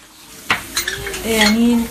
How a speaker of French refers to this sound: D'ailleurs, elle est en train de faire les fonds de tiroir pour préparer le café dans la cuisine.